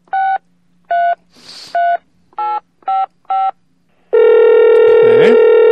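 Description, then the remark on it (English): A phone number being dialed: six short, evenly pitched touch-tone beeps at a brisk, slightly uneven rhythm, a brief hiss between them, then a loud, steady line tone that holds to the end. “Why don't we go ahead and give him a jingle on the phone and see if we can get a statement out of him here.”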